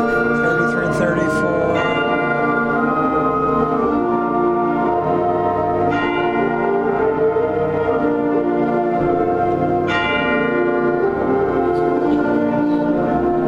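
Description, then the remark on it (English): Orchestral chimes ring out over a full concert band in measures 33 and 34, struck a few times at spaced intervals, sounding only the top note of an intended octave, each bright clang blending into the sustained wind chords around them. “So the chimes are supposed to be an octave. I only heard the top note.”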